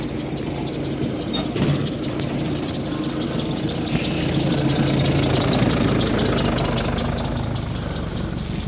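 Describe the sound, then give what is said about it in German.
A tractor engine runs steadily throughout at a constant level, a low idling chug with a rattling, knocking texture and no voices, continuous. “Hinter mir ist ein freundlicher Treckerfahrer, der mich gerade durchgewunken hat.”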